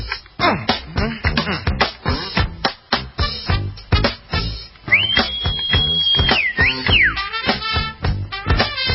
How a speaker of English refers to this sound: I could never whistle like that.